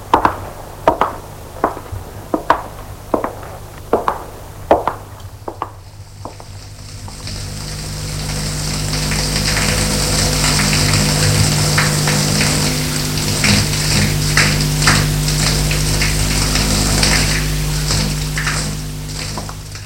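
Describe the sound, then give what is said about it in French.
A few sharp knocks and clicks, then a shower starts and runs steadily in the bathroom of a modern apartment, a dense hiss of falling water that stays loud and even until the end. No one speaks. “elle va dans la salle de bain pour prendre une douche pour se détendre.”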